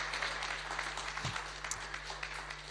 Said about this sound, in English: Why can't you give the Lord a round of applause this morning?